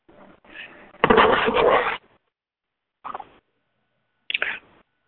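A bird tweets in a few bursts: a longer, louder scratchy burst of chirping, then two short, quieter chirps after pauses, heard alone with no talking.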